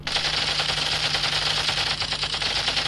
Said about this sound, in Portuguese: de 11 anos, usa o seu brinquedo Kalashnikov para atirar contra objetos no popular parque Saint Anastasie, em Yaoundé, a capital dos Camarões.